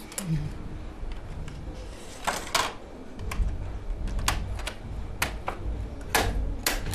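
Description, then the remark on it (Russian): A card punching machine cuts jacquard cards from one row of a pattern drawing, one card per shuttle throw, with sharp mechanical clacks and thumps at an uneven pace, about a dozen strikes over a steady low rumble. “А это вот карта, с одной строчки рисунка насекается карта.”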